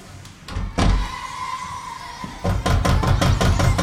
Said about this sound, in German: gehst du bitte nochmal zur Tür? Es hat wieder geklopft.